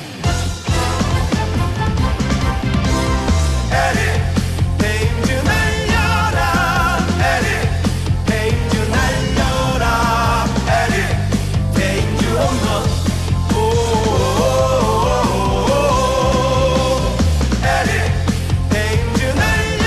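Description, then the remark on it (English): A Korean baseball stadium crowd belts out the cheer song of player Thames in unison, loud and sustained for the whole stretch, with a steady heavy beat and chanting voices rising and falling together. “Thames, who, of course, as you know by now, played prior three seasons in Korea, had his own cheer song over there, and we want you to have a listen.”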